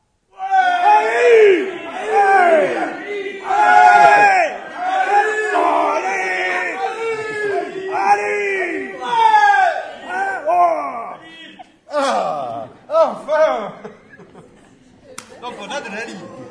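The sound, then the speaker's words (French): An audience yells and whoops loudly together on cue, many voices rising and falling in overlapping shouts for several seconds, then the cheering breaks into scattered calls and fades out. “mais véritablement, je compte sur vous pour vraiment gueuler.”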